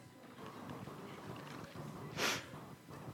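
A single short sneeze bursts out sharply, a hissy, breathy blast that stands out above a low, steady background rumble before fading quickly.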